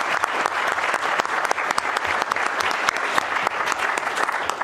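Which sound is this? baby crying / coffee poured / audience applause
audience applause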